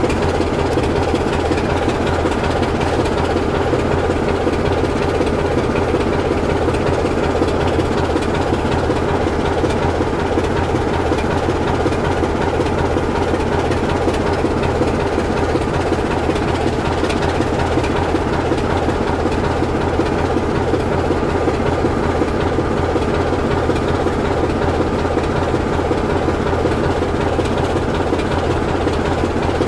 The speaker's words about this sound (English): So when we get a true stereo sound of the diesel on one side of the recording and the steam loco on the other. Quite unusual, I would expect. Just hope the diesel doesn't drown out the steam.